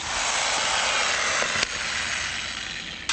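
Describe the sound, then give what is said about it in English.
A power drill grinds steadily and harshly against a thin metal car license plate in Baghdad, Iraq, with a sharp metallic hammer knock midway and another clank right at the end. No voices. “With a hammer and drill, drivers are already beating the system.”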